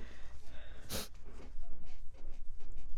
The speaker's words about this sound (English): No sniffing. I can't help it. Yeah, well, don't sniff when we're recording.